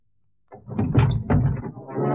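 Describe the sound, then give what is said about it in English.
A heavy truck door is wrenched open, a loud grinding scrape and metallic groan that starts abruptly and drags on for well over a second. “Warrant officer Van Deventer, at the risk of his life, wrenched open the door of the truck to reveal Peralta lying across the seats.”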